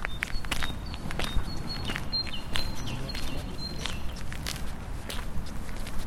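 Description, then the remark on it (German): Steady footsteps walk at an even pace on a hard outdoor surface, each step crisp, while faint bird chirps sound in the background. “Das waren Schritte.”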